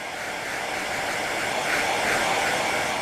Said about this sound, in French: Soit je la souffle au tube, soit au sèche-cheveux, mais bon, je préfère quand même le tube.